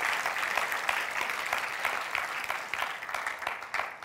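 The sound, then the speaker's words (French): An audience applauds God at a sermon, a dense wash of many hands clapping at an even, sustained level for several seconds with no voices standing out. “Combien peuvent applaudir notre Dieu qui est là avec sa grâce, son espoir?”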